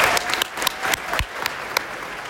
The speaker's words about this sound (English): Clap it up for everybody here who was their first Forward.